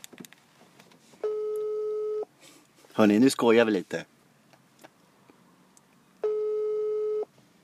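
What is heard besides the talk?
telephone ringing tone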